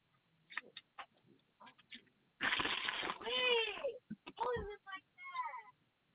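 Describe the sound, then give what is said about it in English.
A cat meows loudly, one long wavering cry followed by several shorter, rising-and-falling meows, with faint scattered noises before them. “Put the cat down.”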